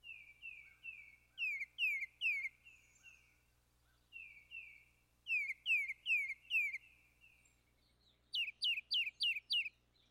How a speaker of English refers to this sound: We're listening to a tufted titmouse. Let's say it has a sweetness to it, but then we hear a Carolina wren that sounds very similar. Well, we're going to take the rhythm of a titmouse, which is a two-syllable song, Peter, Peter, Peter.